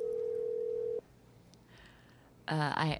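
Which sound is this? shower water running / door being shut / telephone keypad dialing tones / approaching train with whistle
telephone keypad dialing tones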